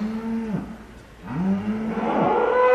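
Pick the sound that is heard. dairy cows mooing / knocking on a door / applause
dairy cows mooing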